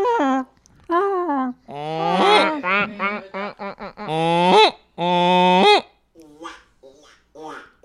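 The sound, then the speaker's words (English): A person imitates a goose with a run of loud, nasal honks, some long and rising, others short and choppy, followed by a few fainter squawks trailing off. “A goose? You do a goose?”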